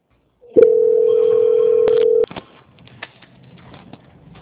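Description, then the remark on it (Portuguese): A steady, mid-pitched telephone tone hums loudly for under two seconds as the call is transferred to the quality control department, then cuts off to faint line noise with soft clicks. “Eu peço que a senhora aguarde um minutinho na linha, que eu vou transferir para o controle de qualidade, que vai dar andamento à sua contratação, tá?”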